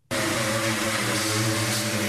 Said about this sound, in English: That's a sanding tool made by Temple Allen Industries in Maryland.